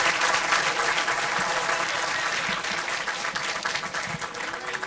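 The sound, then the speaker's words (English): A large audience applauds steadily for a performer, a composer and alto saxophonist: a dense wash of many hands clapping at once that stays loud and sustained throughout, with faint crowd murmur underneath. “Want to have a great big round of applause for Mr.”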